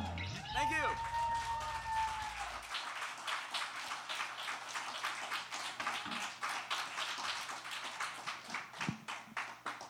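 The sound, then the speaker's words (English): An audience at a band's concert claps along in a steady rhythm, the many hands blending into a dense, fairly loud patter. It follows a brief opening of electronic tones and a low hum. “Still clapping along.”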